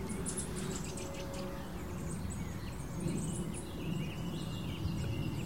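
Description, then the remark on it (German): A song thrush sings in the background, its short bright phrases repeated in quick bursts over a steady low outdoor rumble. “Und da hört ihr im Hintergrund jetzt die Singdrossel.”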